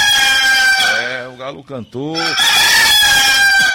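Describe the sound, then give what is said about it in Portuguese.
A rooster crows once, loud, a long strained call that bends down and up in pitch before ending in a harsh, sustained note. “O galo cantou, vamos acordar pra vida.”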